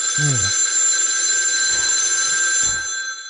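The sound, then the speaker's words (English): A telephone bell rings continuously with a bright, sustained metallic trill, loud, with a few low thumps underneath and no talking. “Oh, and of course the death phone is not ringing.”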